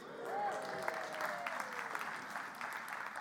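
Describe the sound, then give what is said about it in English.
An audience claps steadily, a dense patter of many hands that holds an even loudness throughout, with a faint whistle or voice rising briefly near the start. “Yeah, applause is cheap.”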